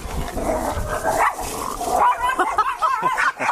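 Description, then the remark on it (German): Two very small dogs yap, growl and yelp at each other in a frantic, overlapping fight beside the Wakenitz river, loud, with rapid high-pitched barks and whines running continuously throughout. “So, was ihr jetzt eben gerade gehört habt, das war ein illegaler Hundekampf, schon fast.”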